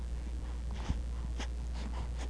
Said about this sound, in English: A lot of snorting and breathing going on here.